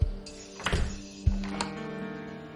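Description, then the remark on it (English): A house's front door thuds shut, followed by a couple of sharper knocks and a clack like a latch or lock being turned as a woman locks it behind her, with a faint ringing hum lingering underneath. “She goes inside and locks the door behind her.”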